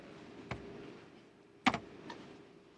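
A few isolated keystrokes on a computer keyboard, sharp clicks spaced irregularly over a quiet background, with one quick double tap in the middle. No one speaks.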